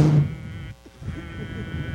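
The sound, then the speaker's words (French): A voice imitates a vibrating phone by blowing a buzzy lip trill: a short, low, droning buzz at the start, a brief gap, then rougher, breathy blowing that trails on. “Ah, ça marche pas très bien le bruit du vibreur quand tu souffles.”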